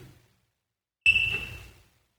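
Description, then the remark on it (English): A single shrill, high-pitched electronic beep like a smoke alarm chirp, holding steady for under a second before fading, over a low rumble. No one speaks. “Sound like a smoke alarm.”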